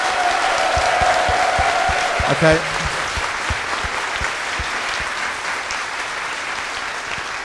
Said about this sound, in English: So are we doing them separately, though? Okay, so let's have a clap for this the Space Invaders one first, if you like that one the most.